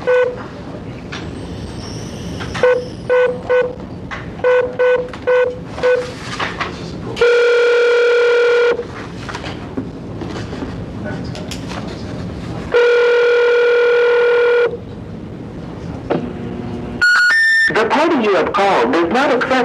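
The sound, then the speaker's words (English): A rapid series of short keypad beeps dials a number on a phone, followed by two long, steady ringback tones with a pause between, then a three-note rising signal and a recorded voice saying the called party does not accept privately marked calls. “to assist us in making the phone call, so...”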